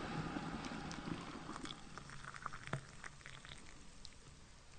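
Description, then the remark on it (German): A kettle of water heats toward a boil for making herbal tea, giving a steady rushing hiss dotted with small crackles and pops, even in loudness, with no voices. “Na dann, machen wir mal das Wasser an.”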